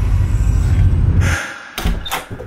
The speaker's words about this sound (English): And then the door to the closet flew open.